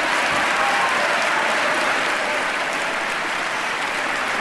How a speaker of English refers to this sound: There's some cheering and whooping from those gathered today.